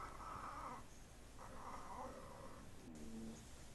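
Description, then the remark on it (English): Cats yowling while mating in long, drawn-out wails, three strained cries in a row with the last one dropping lower in pitch, fairly quiet against a steady background hiss. “I don't want to watch cats fucking. All right, we got to find one with sound.”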